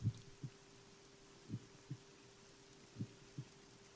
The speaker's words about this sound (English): Feel comforted hearing that heartbeat.